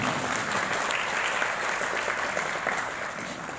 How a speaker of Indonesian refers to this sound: Ini judulnya keren banget ini. Tepuk tangan dong buat teman-teman LKK.